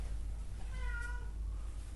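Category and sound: animal, cat meowing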